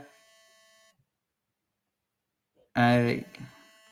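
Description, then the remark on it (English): A faint electronic phone ringtone chimes for under a second, an incoming call while the speaker is already on a phone call during a live stream, followed by a short silence and then a louder voice speaking. “Someone's trying to ring me. Go away. I'm on a phone call.”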